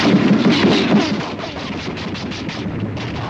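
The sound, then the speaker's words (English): Rapid bursts of gunfire strafe the water around swimmers, crackling and pounding over a dense, rumbling roar. The shots come in quick repeated volleys that stay loud throughout, with no voices. “They dive down as gunfire strafes the water around them.”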